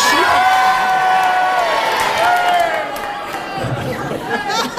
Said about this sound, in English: If you agree with Kenneth Williams, you think I'm a nitwit, will you please cheer for him?